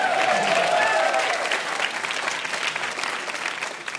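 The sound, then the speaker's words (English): A crowd claps steadily for several seconds, dense and fairly loud, with a few brief whoops or voices rising over the applause near the start before it settles and slightly fades. “You may applaud.”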